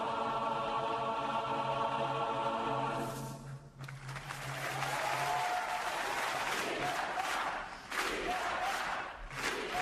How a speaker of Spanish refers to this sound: en el momento en el que cantaban el Cant de la Señera y el Segadors, cánticos a los que se sumó el público, a los que pusieron el broche con aplausos y gritos de libertad. Eso era anoche en el concierto, en un concierto de música.